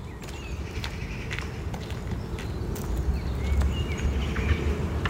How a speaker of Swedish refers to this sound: Där kom den. Oj, större hackspetten. Kommer den igen? Ja.